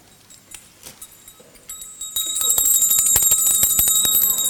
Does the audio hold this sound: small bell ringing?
yes